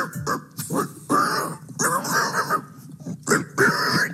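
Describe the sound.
A man imitates a pig with a string of short, nasal squealing and grunting bursts, about eight in quick succession, loud, with no actual speech.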